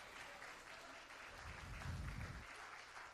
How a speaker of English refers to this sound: He did not save us in our sins. He saved us from our sins. Can somebody give him a hand clap of praise?